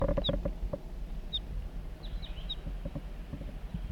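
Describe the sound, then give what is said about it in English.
A juvenile crossbill, recorded halfway down a hill by a lone pitch pine, gives a handful of short, high chip calls in flight, spaced irregularly with a quick pair near the middle, over a low rumble and a few soft knocks. “I've met up with crossbills, perhaps the same birds as before.”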